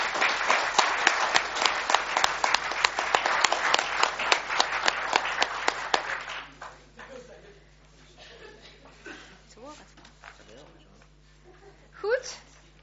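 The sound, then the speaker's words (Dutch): People at a meeting applaud one another loudly for about six seconds after being sworn in, a dense steady patter of many hands, then it fades into quieter murmuring and scattered voices. “En hier vooral het hart klappen voor elkaar.”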